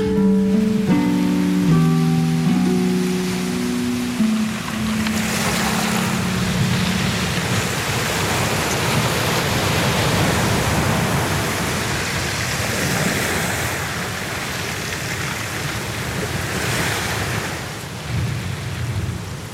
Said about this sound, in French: Je crois qu'il pleut un petit peu à Lyon.